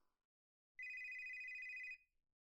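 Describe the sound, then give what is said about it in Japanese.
A telephone rings once in a single steady electronic trill lasting just over a second, clear, with no voices and only faint low rumble underneath. “電話出なくていいんですか？”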